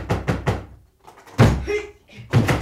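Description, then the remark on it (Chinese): A door is pounded hard: three quick, heavy thuds, then a loud shouting voice, then more banging against the door. “开门啦！开门啦！”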